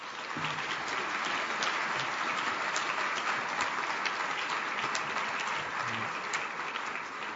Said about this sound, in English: I think they deserve a fantastic round of applause.